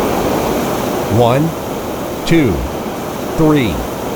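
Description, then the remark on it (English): A steady, broad hiss of steam escaping from a pressurized water line while a button is held for five seconds, the water too hot and lost to steam, running continuously at an even level, with three short spoken utterances rising briefly over it. “The temperature was too hot and we lost a lot of the water to steam again.”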